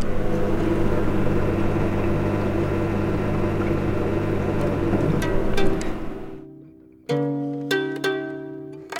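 A dishwasher hums and whirs steadily with a dense mechanical drone and faint clicks, then shifts abruptly into a different tonal hum with a brief dip in the middle. No voices.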